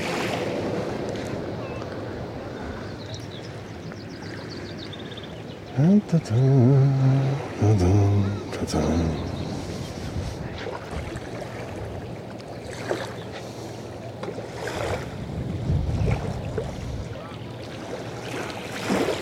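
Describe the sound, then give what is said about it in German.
Small waves lap softly and steadily against a boat hull on otherwise flat water with no swell, with a gentle wash of wind, broken briefly midway by a short muffled voice-like tone. “Hört ihr das? Die Wellen”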